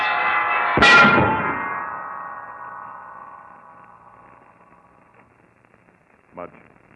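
The big center bell of a bell tower falls and crashes down with one loud, booming impact, its metallic ringing tones swelling and then slowly fading over several seconds, followed by a brief faint knock.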